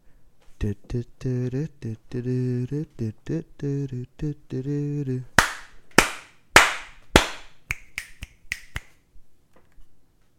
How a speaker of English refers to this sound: I lost count of snaps, but I felt like that was a four slapper with a lot of dot.